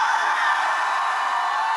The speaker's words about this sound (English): Holler, holler, somebody scream.